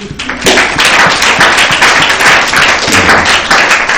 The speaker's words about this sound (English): We can applaud for that one too.